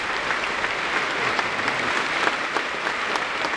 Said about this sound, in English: this applause is now being directed to the appearance of Mrs. Glenn